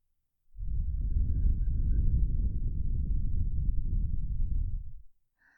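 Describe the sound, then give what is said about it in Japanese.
A single long, slow, warm exhaled breath blown onto the microphone, a soft, low, muffled rush that holds steady for about four and a half seconds and then stops. No one speaks. “このあったかい吐息のぬくもり、たまりませんよね。”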